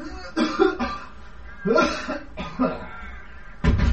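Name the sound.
a man coughing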